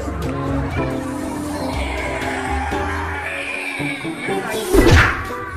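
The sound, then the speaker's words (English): A single sharp thwack of a Bible smacking a man's face lands near the end, loud, over a steady murmur of crowd noise and voices. “That's the Bible hitting him in the face.”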